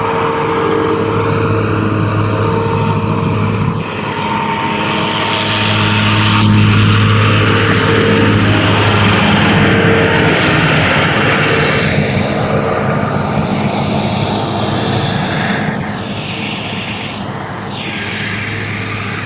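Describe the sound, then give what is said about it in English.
A loud, steady engine drone with strong low harmonic bands holds throughout, swelling slightly in the middle, as a gas lawn mower mows a lawn just after 7 a.m., running continuously as it passes by, with no voices. “I wonder how early he has to get up in order to be here mowing this lawn at just after 7 a.m.”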